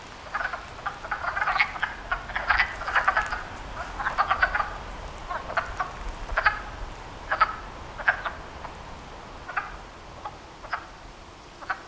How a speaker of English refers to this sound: Now, the wood frogs will be quiet for a little while because they can hear us coming and they get a little nervous. But I bet if we stand over there quietly for a minute, the sound of the wood frogs will start to pick up again.